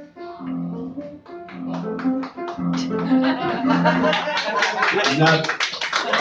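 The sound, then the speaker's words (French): Audience applause starts as scattered claps and swells into dense, steady clapping, layered over a sustained voice whose tones fade as the applause grows louder. “N'applaudissez pas.”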